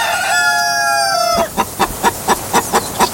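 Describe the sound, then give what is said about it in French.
A radio jingle: a rooster gives one long, loud crow, then a hen clucks seven times in a steady, quick rhythm, clear with no talking. “Une poule vient de nous pondre un chiffre.”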